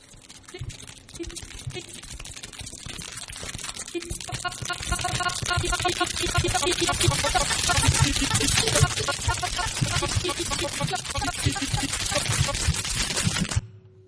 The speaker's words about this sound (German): Das war meiner Meinung nach ein Schnitzel in der Pfanne, Schnitzelklang von Laura Mello.